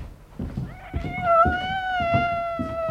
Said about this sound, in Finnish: Hyi saakeli, onpas sillä kollilla karmi ääni. Oikean ruumiskellarin kissa.